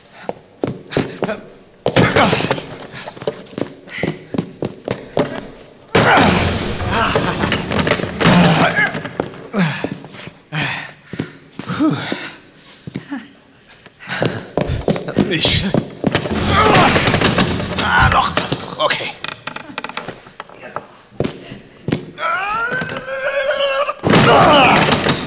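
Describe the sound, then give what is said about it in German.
A stuck door, in rooms unused for years, is forced open: repeated heavy thuds, bangs and rattling, then a drawn-out creaking squeal from rusty hinges near the end, loud. “Die Türen angeln sehen rostig aus.”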